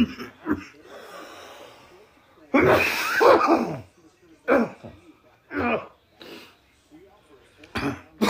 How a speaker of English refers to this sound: Now I can get this coughing fit out the way.